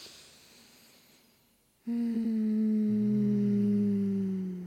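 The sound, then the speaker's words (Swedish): A soft, airy inhale builds for about two seconds, then a steady, loud hum starts abruptly and holds as the breath slowly runs out, with no talking. “Tar ett djupt andetag.”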